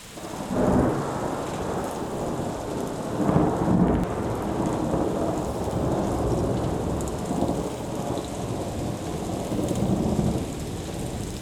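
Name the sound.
thunderstorm with rain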